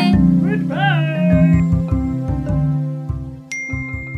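A bright message-notification ding chimes once near the end, signalling a received message, ringing out over a busy bed of playful, bouncy music that plays throughout.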